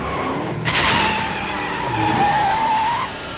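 A car roars along with its tires skidding, a loud rushing engine noise topped by a thin, rising squeal that stretches through the second half before cutting off. No one speaks.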